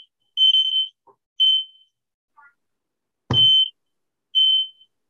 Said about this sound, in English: The fire alarm. Oh, forgive me. I don't know why it does that. Maybe an ant crawled in there or some dust or something, but that's kind of scary. Yeah. No fire here, as far as I can tell.